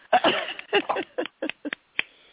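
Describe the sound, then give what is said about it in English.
A person standing and clapping hands as a standing ovation, in a quick, uneven burst of about eight or nine sharp claps that grow sparser and softer toward the end, with no talking over them. “You hear me clapping?”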